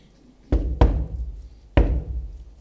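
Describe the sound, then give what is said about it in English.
Three solid knocks on the wooden front door of a home on a Sunday morning, two close together and then one after a short pause, each thudding and ringing out briefly. “It's a knock on the front door.”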